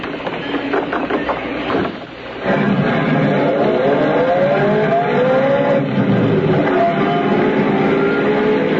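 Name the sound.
car driving off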